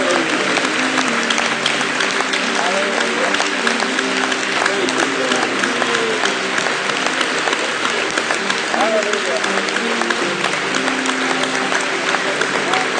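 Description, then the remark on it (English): An audience gives a clap offering to thank the Lord Jesus, clapping steadily and loudly for the whole stretch, a dense, continuous patter of many hands with murmured voices and a few calls blended into the applause. “Let's give him a clap offering one more time and tell him, thank you, Lord Jesus.”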